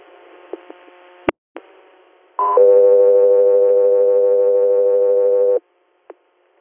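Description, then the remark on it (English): Radio dispatch alert tones for Guthrie Air: after a hiss of radio static and a few clicks, a short higher tone leads straight into a long, steady lower tone lasting about three seconds, loud and clear, then a click. “Guthrie Air, stand by for tones.”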